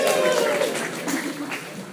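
An audience applauds with a dense, steady wash of clapping that holds an even loudness for about two seconds, with a faint voice briefly rising above it at the start.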